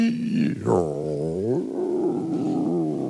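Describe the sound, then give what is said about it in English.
A heavy cemetery vault door of a crypt creaks slowly open in one long, loud, groaning creak whose pitch bends up and down for about three seconds, with no voices. It is the lead-in to the radio program Inner Sanctum. “But the scariest one, the lead-in to this radio program, is you would hear this crypt, this cemetery vault door creaking open at night.”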